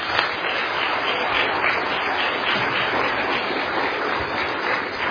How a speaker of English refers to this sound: But again, I think it's appropriate for us to give our graduates a round of applause.